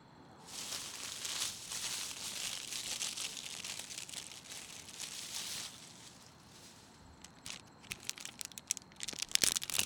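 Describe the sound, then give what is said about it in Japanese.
A seaweed snack wrapper is crinkled open, a sustained bright rustle for several seconds that eases, then gives way to sharper, irregular crackles and snaps of the plastic near the end. No one speaks. “次は海苔食うか。”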